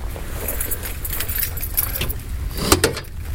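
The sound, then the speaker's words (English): Car keys jangle in a run of bright metallic clinks as they are used to open a locked car in cold weather, ending in a couple of sharper rattles, over a steady low outdoor rumble. “Oh, luckily I have my keys.”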